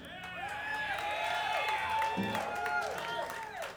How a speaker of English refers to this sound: I appreciate that applause in advance. Thank you.